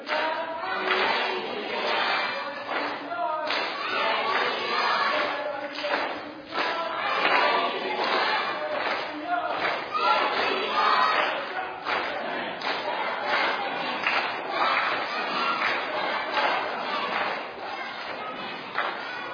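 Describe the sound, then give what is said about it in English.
A group of children, the green team at VBS, shouts a team cheer together, loud and sustained, with rhythmic bursts of voices chanting in unison for nearly twenty seconds. “Go ahead, Green. You're up. Give a cheer.”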